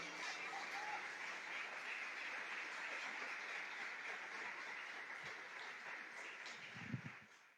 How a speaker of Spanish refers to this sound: ¿Ustedes lo creen conmigo? Denle un aplauso a Dios todo el que crea que aquí hay bendición en este lugar.